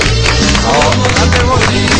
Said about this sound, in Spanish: No, bravo, bravo, bravo. Bueno. Bueno, un aplauso al técnico.